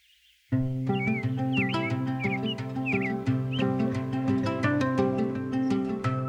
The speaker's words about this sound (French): Le lever du jour, un matin de printemps. Le moment le plus intense de l'année pour entendre les chants d'oiseaux.